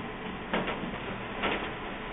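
An old HP LaserJet laser printer powering on after being plugged in: two short mechanical whirring bursts over a steady low hum, fairly quiet, with no one talking.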